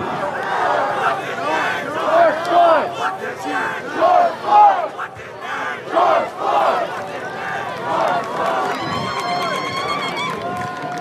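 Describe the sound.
A large protest crowd in Minneapolis, protesting Floyd's death at the hands of the city's police, shouts and chants outdoors, voices overlapping in loud surging waves, with a few piercing yells rising above the roar before a steadier, high-pitched tone emerges near the end.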